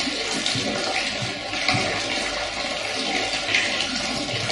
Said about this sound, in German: Gerade die Empfindung, dass da Nebengeräusche sind, die unsere Zuschauer vielleicht nicht deuten können. Also hier gehen Leitungen mit Wasser durch und da fließt ab und zu mal was durch den Raum. Und das hört man dann so.